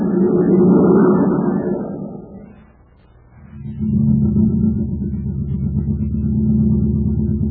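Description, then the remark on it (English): A futuristic surface car, a jet-driven vehicle running slowly on ordinary fuel, drones with a deep, steady engine rumble, dips briefly to near quiet, then resumes as an even, humming drive. No voices are present. “Say, what kind of jet jalopy are you riding in, Captain Tufel? We'll never get to Terra City at this speed.”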